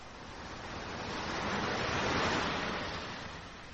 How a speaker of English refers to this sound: The sea. Yeah. The sea.